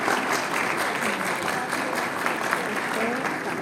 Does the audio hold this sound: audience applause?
yes